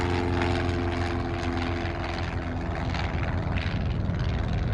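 A steady, loud propeller engine drones with a buzzing harmonic hum, its tone holding level over a broad wash of rushing noise: a small plane at high power taking off from Moorabbin Airfield, Melbourne, on 21 October 1978 for a solo flight south across Bass Strait to King Island, Tasmania.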